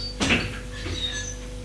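A front door is opened after the doorbell rang, with a short clunk of the latch and a brief squeak of the hinge, followed by a faint low hum and quiet rustling settling down.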